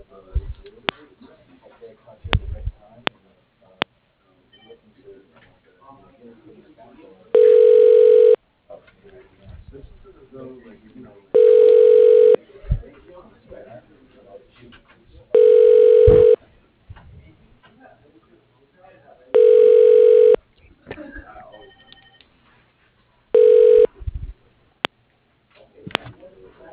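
A telephone line's ringback tone purrs five times while a call is being transferred to an extension, in steady, evenly spaced bursts of about a second or two, separated by pauses filled with faint, muffled background noise and clicks.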